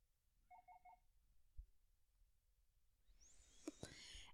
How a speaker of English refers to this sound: And I'll turn off my notifications. Sorry about that.